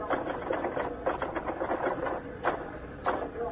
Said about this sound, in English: You finished typing that banquet story yet?